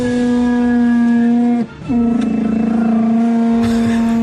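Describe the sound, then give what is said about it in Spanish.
A car window squeaks loudly as it rolls up and down, a sustained harmonic groaning whine that breaks off briefly and then resumes, with no talking. “Dios, es una ventanilla. Por favor, que arreglen esa ventanilla ya.”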